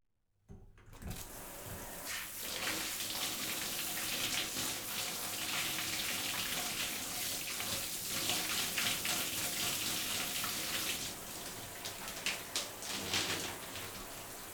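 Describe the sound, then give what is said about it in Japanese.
A steady hiss of shower water sprays continuously for about fourteen seconds, wetting the hair of a person lying down with a towel over the face, with small splashing and dripping variations as the stream hits the hair; no one speaks. “それでは髪の毛の方シャワーで濡らさせていただきます。”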